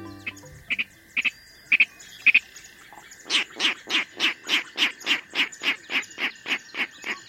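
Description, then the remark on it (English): A Virginia rail in a marsh gives a few sharp, separated clicks, then a quick, steady run of about fourteen grunting oinks, close and fairly loud over a constant insect-like hum. “These clicks and oinks tell us a Virginia rail is close by.”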